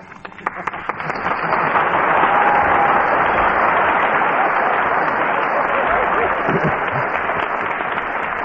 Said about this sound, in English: I heard that applause.